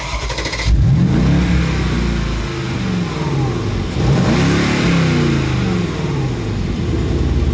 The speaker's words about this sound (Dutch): Nog een echte ouderwetse V8, waar we binnenkort weer afscheid van moeten nemen,